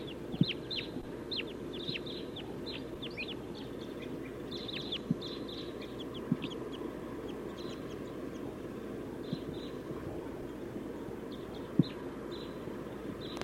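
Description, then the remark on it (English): A circling flock of about seven to nine crossbills calls in scattered bursts of short, sharp, high chips, overlapping irregularly throughout, over a steady low rumble with occasional soft knocks. “5, 7 crossbills. Or maybe 9. They're circling.”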